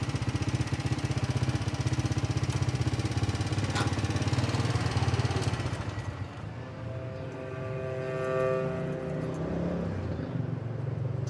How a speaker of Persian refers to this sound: امیر و سهیلا با موتور توی کوچه میاد.